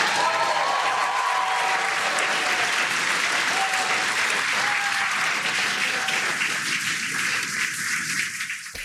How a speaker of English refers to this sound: Now, who explain who those people were that were clapping. That's all the SpaceX people who work on these things.